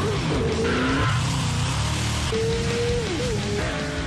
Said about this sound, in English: Trees blur beside you on screen. Gleaming sports cars peel around the corners.